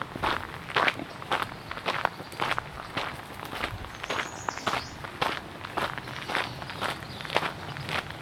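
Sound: footsteps on gravel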